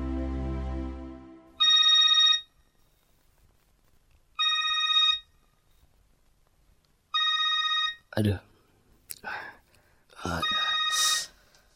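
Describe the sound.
A telephone rings three times late at night at steady intervals, each ring a bright electronic trill with short pauses between, followed by a person speaking.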